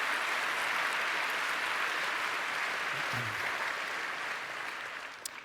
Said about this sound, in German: Also da vielleicht ein kleiner Applaus für die Kollegen im BAMF, die Domain dann zurückgehalten haben.